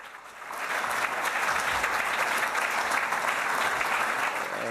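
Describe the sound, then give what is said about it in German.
Steady audience applause at the end of the talk "Hacking von EU-Funding-Systemen", a dense wash of many hands clapping that swells in after a brief moment and holds at an even level throughout, with no voices standing out. “Während dem Applaus möchte ich auch noch die Abmoderation machen.”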